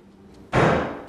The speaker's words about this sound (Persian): صدای چی بود؟ صدای بسته شدن در بود.